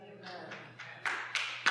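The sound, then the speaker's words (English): Scattered, sparse applause from three women: half a dozen sharp claps at an uneven pace, growing a little louder toward the end, with a faint voice trailing off underneath at the start. “Yes, I get three ladies that applaud.”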